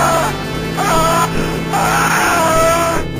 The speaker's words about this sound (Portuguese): Existia uma lenda de que esse grito teria sido feito com captura de áudio de pessoas torturadas no corredor da morte, sabe? A SEGA foi numa execução de um cara, né? Sei lá, de uma cadeira elétrica, enfim.